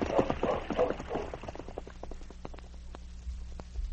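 Horse hooves clip-clop in a steady, even rhythm, gradually receding, with a brief voice calling out over the first hoofbeats, urging on the horse Blackie.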